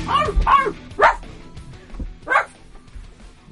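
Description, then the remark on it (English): A man on all fours on the floor barks like a dog, letting out three or four loud woofs with uneven pauses between them and a low background hum underneath. “he's just on all fours, barking like a dog.”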